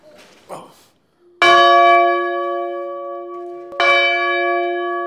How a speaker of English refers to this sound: So anyway, this is the bell tower. Do you want me to ring it?